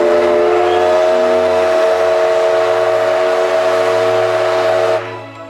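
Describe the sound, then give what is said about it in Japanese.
The whistle of JR West's D51 class steam locomotive No. 200, known as Degoichi, sounds one long, loud, steady blast for about five seconds over a low mechanical rumble, then cuts off and leaves a brief fading echo. “平成26年秋、JR 西日本からデゴイチの愛称で知られる D51 型蒸気機関車200号機の本線運転復活が発表されました。”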